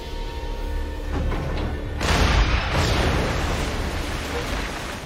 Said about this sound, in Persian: نشانه گیری 81652 با اسلحه. از مبدا 10 متر به جلو یک بار شلیک.